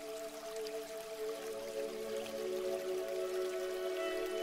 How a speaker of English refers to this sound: Being in this moment, connected to your breath, connected to the feeling of revitalization that comes from this waterfall.